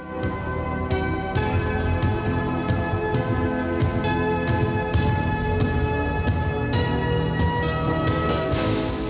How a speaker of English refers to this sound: Radio Netherlands, the station with big bells.